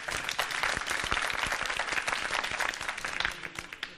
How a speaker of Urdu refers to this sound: زوردار تالیاں ہو جائیں.